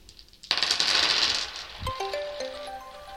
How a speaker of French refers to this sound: est-ce que tu accepterais de jouer au jeu du lancer de dés et de lancer les dés dessinés qui sont devant toi?